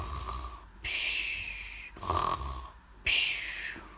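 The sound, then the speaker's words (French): Snoring from an animal asleep in the grass: three rhythmic, breathy snores about a second apart, moderately loud, with no talking over them. “Il se couche dans l'herbe et s'endort.”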